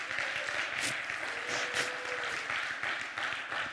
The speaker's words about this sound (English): Okay, give him a hand clap. Yes. He's your shepherd.